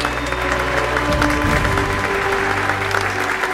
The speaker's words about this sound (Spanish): De este asunto viene a hablarnos hoy Lucía Muñoz, una de las intelectuales más respetadas de España. Un fuerte aplauso a Lucía.